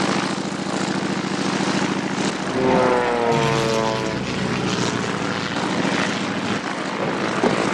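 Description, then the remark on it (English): A propeller aeroplane engine runs loudly and steadily throughout, its drone rising in pitch midway as it revs up, with a buzzing harmonic whine over a constant low rumble. “the cat is trying to fly the aeroplane.”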